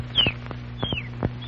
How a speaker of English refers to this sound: It's not just an ordinary canary. Oh, isn't it? No, Alan. It'll answer questions for you.